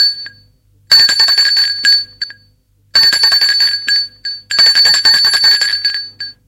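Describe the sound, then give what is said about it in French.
Nicolas rings the doorbell at Frédéric's home: it rings three times in loud, bright bursts of about a second each, with short silences between, its metallic trilling tone steady and high-pitched. “Nicolas, avant d'entrer chez lui, va sonner chez Frédéric.”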